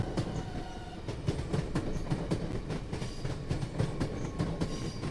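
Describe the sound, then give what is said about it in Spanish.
A train rushes past loudly on the steppe, its windows lit, with a dense steady rumble, rapid rhythmic clatter of wheels and sharp metallic clicks throughout, no voices. “El tren pasó volando con estrépito por delante de mí, alumbrándome indiferente con la luz de sus ventanillas.”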